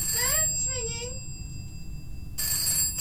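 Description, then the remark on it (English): A telephone rings with a short burst of warbling, rising tones over the first second, then stops, leaving a low background hum and hiss. “The phone's ringing.”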